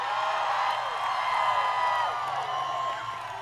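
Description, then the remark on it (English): A large rally crowd roars with cheers, whoops and overlapping voices, chanting "2 cents" and cheering Elizabeth Warren off the stage, a steady loud wash of sound that holds for several seconds and eases slightly at the end. “And so you can hear them there chanting 2 cents, and they cheer her off the stage.”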